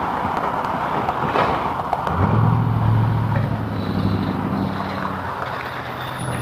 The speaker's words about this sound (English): And a Jeep.